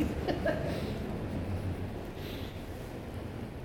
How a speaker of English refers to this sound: Yeah, that was the source, right? I mean, that was exhaust. That was coming in or out? That was going out.